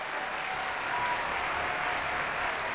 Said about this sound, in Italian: Grazie per la vostra partecipazione. Ancora un forte applauso, grazie.